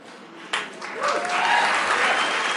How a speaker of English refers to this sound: Yeah, well, oh, yeah, yeah, this is where we clap. Okay, got it.